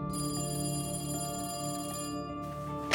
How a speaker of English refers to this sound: Late that night, his phone rang.